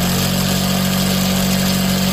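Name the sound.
sewing machines running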